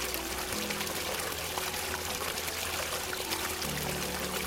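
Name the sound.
running water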